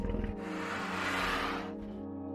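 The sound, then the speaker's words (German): A dragon-head cast-iron door knocker, once knocked, snorts sleepily: a low, rumbling, breathy exhale with a throaty growl underneath, swelling and then trailing off over about two seconds, with no talking. “Zu deiner Verwunderung schnauft der Drache verschlafen.”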